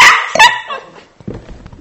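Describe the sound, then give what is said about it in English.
A dog lets out two sharp, loud barks, the second one strong and ringing, followed by quieter shuffling and faint thumps. “Excuse me a second. Come on, dog.”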